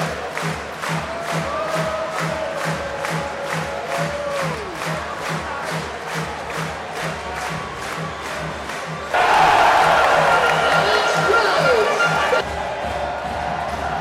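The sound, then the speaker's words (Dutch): A basketball crowd in the second quarter chants and claps in a steady rhythmic beat, then stands and bursts into a louder, sustained roar of cheering for a few seconds before settling back to the clapping. “Geniet gewoon lekker van het publiek. Want ze gaan weer staan hoor.”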